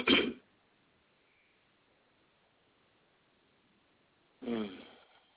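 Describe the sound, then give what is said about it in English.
Two short throat clearings, one at the start and another about four seconds later, with near silence between them. The second sounds more voiced and rasping. “Okay, deep truth is coming through. That's why I have to clear my throat.”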